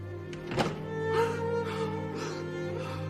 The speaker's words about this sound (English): Nikki closes his door.